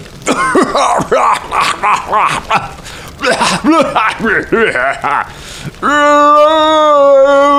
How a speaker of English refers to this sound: And as it all, like plaster, just crumbles away from this, suddenly the head just moves and shakes, and the last of the stone falls away from it as this huge head just coughs and splutters.